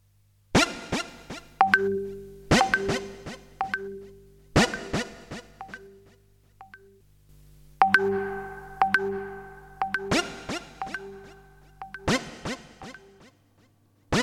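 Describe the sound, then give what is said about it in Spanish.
A bright electronic mobile phone message notification tone repeats in quick melodic bursts, a short chiming pattern cycling several times, clear with no voices. “Ese poder del sonido es lo que te hizo mirar el celular cuando escuchaste ese aviso de mensaje.”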